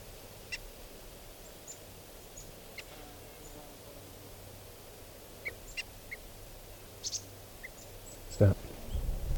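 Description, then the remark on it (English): Decoy birds, including bird 395, give short, high alarm calls while an osprey flies around, repeated irregularly and fairly faint, over a low steady background hum, with a brief thump near the end. “These are the alarm calls of the decoys.”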